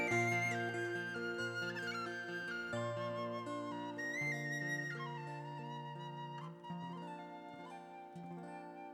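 A whistle plays a flowing melody of held and stepping notes over a steady, droning instrumental backing, continuous and fairly loud throughout, with no voices.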